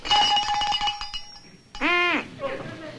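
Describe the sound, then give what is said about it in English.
A cowbell clanks rapidly and loudly for about a second, its metallic ringing fading out, followed by a short, nasal honk from a duck call. “A cowbell and a duck call is going on.”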